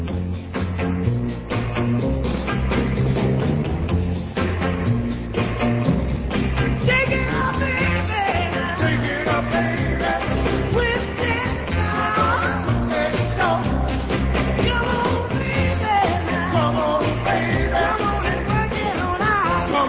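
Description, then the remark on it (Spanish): An early 1960s rhythm and blues vocal group recording by a band plays loud and continuous: energetic lead and shouted backing vocals over a driving, steady beat, with a slightly dull, vintage sound. “podemos escuchar como una curiosidad la versión de los … un año antes de que los … grabaran …”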